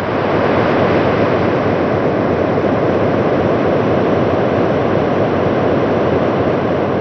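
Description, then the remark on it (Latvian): A steady, loud rush of wind roars without pause, a dense hissing whoosh like air streaming past a falling object, with gusts forming vortices, recorded by a probe descending through the atmosphere of Titan, with no voices or other sounds. “Tas ieraksts ir, tur var dzirdēt tādu vēja svilpoņu un apmēram tādu pašu skaņu, kādu būtu, ja arī zemes atmosfērā laistos lejā ar vai bez izpletņa kāds objekts.”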